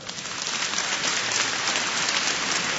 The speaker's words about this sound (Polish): Oraz zespół działający przy Oazie Młodzieżowej, także brawa dla nich.